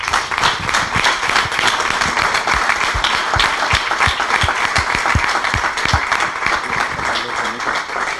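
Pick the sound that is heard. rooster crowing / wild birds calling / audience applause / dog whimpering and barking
audience applause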